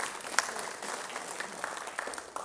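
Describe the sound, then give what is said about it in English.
An audience claps together, a steady wash of many hands with no single claps standing out, holding at an even, moderate level for a couple of seconds. “Yeah, we can clap for God for that.”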